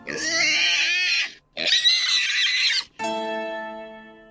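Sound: pig grunting and oinking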